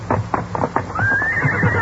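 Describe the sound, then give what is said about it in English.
A horse neighs loudly: a few quick, breathy snorting pulses give way to a long, high, quavering whinny that carries to the end. “All right, let's get the horses and follow the trail of those outlaws, Tonto.”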